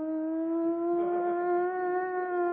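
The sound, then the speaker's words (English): A voice imitates an air-raid siren, holding one steady, whining tone that rises slightly in pitch and stays loud without a break for about two and a half seconds. “In their brains, they start whining the siren.”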